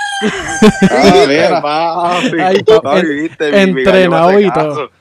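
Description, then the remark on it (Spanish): A rooster named Piccolo crows loudly, a long, warbling, drawn-out cock-a-doodle-doo that fills several seconds with strained, wavering harmonics before cutting off abruptly. “Pichén al gallo, la gente que nos está escuchando, no es culpa de nosotros, es que Piccolo quiere ser parte de nosotros, pero pues no se puede.”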